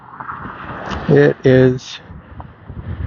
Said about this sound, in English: It is windy. Weather app says 20 miles an hour out of the west. I believe that. It was blowing right in my face for that half mile along West 20th.